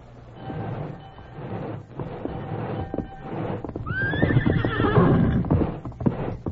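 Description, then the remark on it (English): A horse named Silver whinnies loudly with a rising, wavering call while hooves clip-clop steadily, over a low rumbling background that grows busier toward the end. “Steady, boy.”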